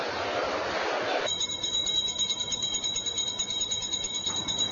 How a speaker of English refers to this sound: Around 5 o'clock in the morning, bell rings to gather middle traders into seriba, which is a bidding place.